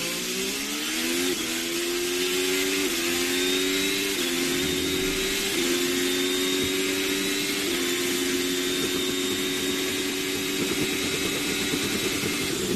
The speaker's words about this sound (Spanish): os voy a poner comparado el motor Ferrari de Sebastián Vettel.